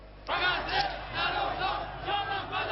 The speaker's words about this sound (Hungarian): Sem Gáza, sem Libanon nem fontos, csak Iránért élünk. Ezt kiabálták a teheráni utcákon az ellenzéki tüntetők, akik július közepe óta most először mertek nagyobb tömegben az utcára vonulni.